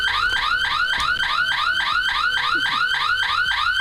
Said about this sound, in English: If we had a burglar alarm ringing and we tripped the other burglar alarm accidentally, you wouldn't be able to hear the real burglar alarm because the other one would be ringing so loudly.